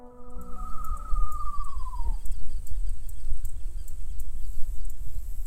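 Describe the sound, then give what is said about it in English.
A whistled imitation of a screech owl: one sustained, wavering note that slides downward and fades after about two seconds, over a steady low rumble with faint high ticks. “The whistling one was a screech owl imitation, and little birds hate owls because they, I guess, know what they can do to them.”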